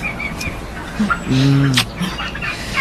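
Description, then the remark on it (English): Farm birds cluck, with one fuller, drawn-out call in the middle and a few short, softer clucks and chirps scattered around it over a low background hum. “Give me a hand with the birds, if you like.”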